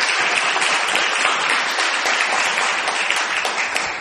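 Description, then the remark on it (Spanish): Steady, dense applause from a crowd greeting a guest at a small shed-like venue on Gorriti street, many hands clapping at once in a continuous wash of sound that holds at an even, fairly loud level throughout without anyone speaking over it. “Aquí estamos en el galponcito de la calle Gorriti y vamos a utilizar el mismo aplauso que traíamos para saludar”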